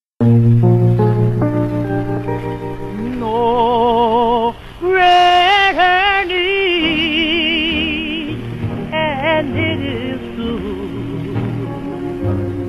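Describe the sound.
A vintage doo-wop style vocal group song with a lead singer's wavering, vibrato-laden melody over harmonizing backing voices and steady accompaniment, loud and continuous throughout.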